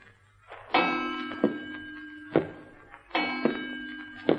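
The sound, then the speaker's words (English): A clock striking: about six metallic bell-like strokes in an uneven rhythm, each with a sharp knock and a ringing, sustained tone that hums beneath the next. No one speaks. “It was going right with the clock strike.”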